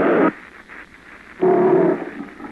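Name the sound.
lion roaring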